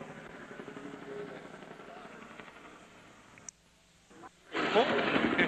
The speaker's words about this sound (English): The helicopter now seems to be making tighter and tighter circles. Before, it was coming practically over to the wall where we are, but it's tightening. And I don't know exactly what they're saying, but it's tightening.